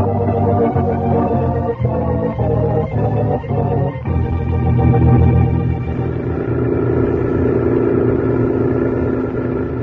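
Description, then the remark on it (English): A truck engine rumbles loudly and steadily, its low droning tone shifting in pitch partway through as the truck drives up with its headlights tilted up toward the sky. No voices are heard. “He's tilted up the headlights on the truck.”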